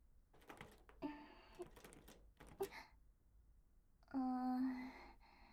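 small door being opened

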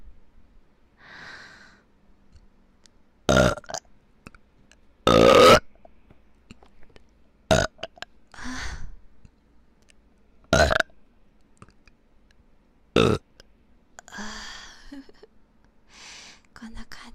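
burping

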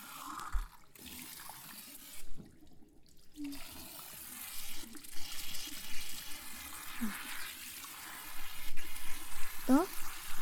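shower water spraying

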